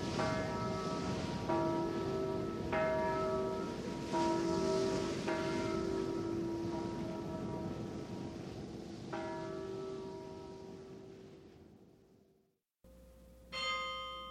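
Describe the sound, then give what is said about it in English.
The carillon bells of Dordrecht chime a slow melodic sequence, each strike ringing out and overlapping the last in a resonant wash before fading away, followed by an abrupt cut to another brief ringing. “The Chimes of Dordrecht.”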